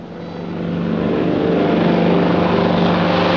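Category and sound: vehicle, propeller airplane flying overhead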